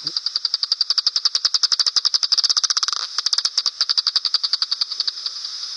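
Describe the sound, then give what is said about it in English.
Bat echolocation calls from a bat flying over at dusk, as a fast, steady train of high, crackly clicks. They briefly crowd together into a quicker burst midway as the bat homes in on a moth or similar, then settle back into a regular ticking rhythm. No one speaks. “That little kind of squirt sound at the end is when it's really homing, when it's got a moth or something”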